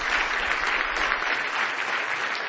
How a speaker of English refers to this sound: Give Him one more big hand clap of praise if you love Him tonight.